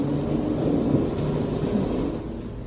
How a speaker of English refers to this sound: All around me is noise of welders, of drilling rigs, of pneumatic drills, and a confusion of activity.